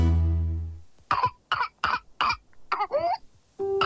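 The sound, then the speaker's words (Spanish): A rapid fit of harsh coughs, six or so in quick succession, ending with a gasping, whoop-like intake of breath, after a fading tonal chime; a whooping cough (pertussis) coughing fit. “Se caracteriza por una tos intensa que puede durar semanas y, en casos graves, causar neumonía, convulsiones o incluso la muerte.”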